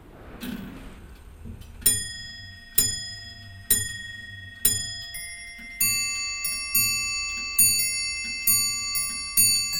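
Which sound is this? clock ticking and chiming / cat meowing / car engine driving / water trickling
clock ticking and chiming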